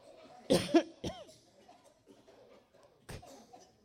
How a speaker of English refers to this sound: Take a deep breath and cough them out. Let them go.